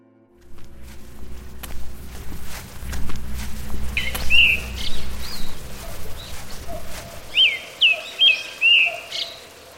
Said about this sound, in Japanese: 訪問客の出入りが制限されている治癒の道には静けさが漂い、 鳥のさえずりだけが聞こえていました。